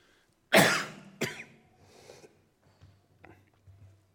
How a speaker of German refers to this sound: Ist bezeichnend, ne, dass ich jetzt huste, die ganze Zeit.